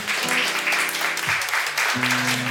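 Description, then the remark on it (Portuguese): A crowd at the start of the Hashtag Tem Que Respeitar project claps steadily and loudly for a couple of seconds, a dense wash of hand claps with a few sustained voices or cheers mixed in underneath. “Uma salva de palmas pra galera que tá aqui.”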